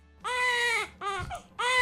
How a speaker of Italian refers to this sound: Questa, bambino che piange, questa lo conosco. O di giorno o di notte.